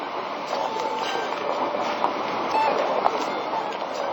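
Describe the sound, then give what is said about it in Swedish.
A subway train rumbling steadily across a bridge on the stretch between Slussen and Gamla stan, a dense broad roar with faint metallic clicks and a brief squeal, continuous throughout. “Sträckan mellan Slussen och Gamla stan över en bro till exempel, så klingar det annorlunda om tåget.”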